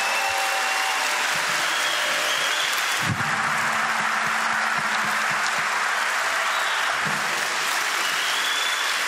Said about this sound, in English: And I really appreciate you giving them a round of applause. They're right over here.